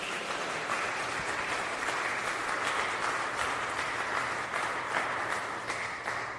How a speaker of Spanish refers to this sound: Y le damos un fuerte aplauso a la Virgen. ¡Viva la Virgen!